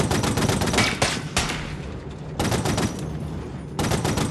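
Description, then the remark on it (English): Sustained bursts of gunfire, a sound-effects layer that sound editor Sullivan adds to a film's aerial war sequence aboard a bomber plane: dense rapid shots blending into a crackling roar, loud throughout with brief dips between volleys and no voices. “Sullivan adds another layer. Okay, here's the guns.”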